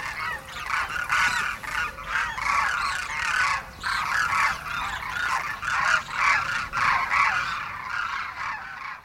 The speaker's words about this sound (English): On the other side of the world, let's listen to some demoiselle cranes. Demoiselle. Right, that's what I said. Demoiselle. These birds were recorded in India in their winter habitat.